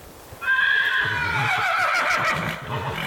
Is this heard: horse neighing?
yes